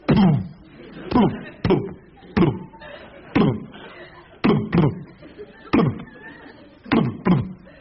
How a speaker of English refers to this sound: Have you been upstairs and listened to the junk mail come through the door?